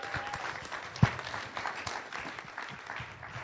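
An audience claps steadily for a few seconds, a dense, even patter of many hands with one sharper, louder clap standing out near the start.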